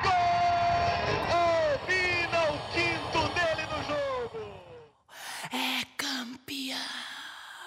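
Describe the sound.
A loud football crowd roars and chants for about five seconds, many voices blending into one continuous swell, then it cuts to a quieter stretch of single voices and sharp clicks.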